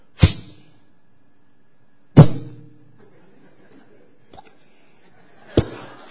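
Three sharp arrow strikes, as Ram's arrows cut off Ravana's heads, land a couple of seconds apart, each a loud thwack with a brief ringing tail, plus a faint tap between the last two. No one speaks.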